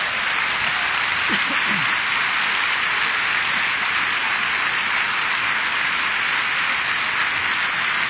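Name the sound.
audience applause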